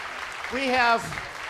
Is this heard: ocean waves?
no